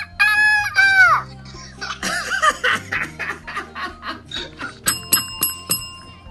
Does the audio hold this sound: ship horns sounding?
no